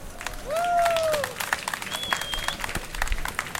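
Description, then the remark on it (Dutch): A crowd seated on a grass field applauds steadily with dense, overlapping clapping throughout, and a couple of bright whistles ring out near the start and midway over the outdoor audience, applauding the speaker's sister, who worked with Stichting Ardan to organise the event. “Ik zou dan ook eerst willen vragen, voordat ik begin, om een heel groot applaus voor mijn zusje”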